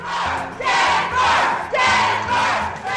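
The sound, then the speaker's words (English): A rowdy crowd of Clinton supporters shouts loudly in repeated surging bursts after the Democratic Party's Rules and Bylaws Committee ruling on the Michigan and Florida delegations, many voices roaring together in a rough, chant-like rhythm with no single speaker standing out. “Clinton supporters in the rowdy crowd signaled they're ready to fight all the way to the convention floor.”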